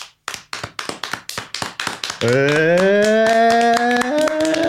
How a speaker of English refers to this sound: You got two claps there. Yeah. Two individual claps.